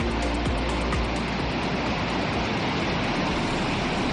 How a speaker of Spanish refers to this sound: Y escucha esto, así baja el Ebro hoy, por su paso por Logroño.